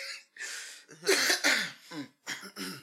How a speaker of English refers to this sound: Why are you all coughing? No, I think it just went down the wrong pipe or something. I don't know. It's no, I want to cough.